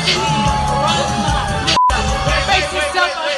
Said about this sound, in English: Okay, they stop her. She's singing the song. Audience is booing. She has no idea what the problem is.